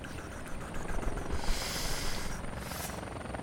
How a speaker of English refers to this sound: And then suddenly, a black helicopter roars into view in the street.